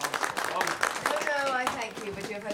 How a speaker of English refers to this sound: Harriet joins in the applause.